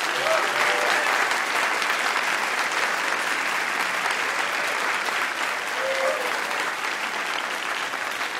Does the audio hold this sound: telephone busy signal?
no